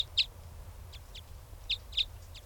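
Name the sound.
wild bird calling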